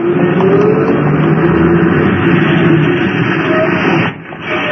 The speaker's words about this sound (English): I hurried across the street just as a bus pulled up and took on a passenger. A little old lady wearing a little hat. I reached the stop as the bus was pulling away.